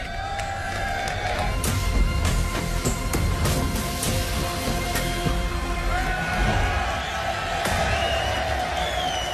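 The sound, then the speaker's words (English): A large crowd of Ferrari fans cheers and whoops continuously at the unveiling of Ferrari's red and black 2023 Formula One car, a dense roar of voices with scattered sharp shouts and claps, loud, sustained for several seconds. “Crowd excited, get the first look at the car, the black and red.”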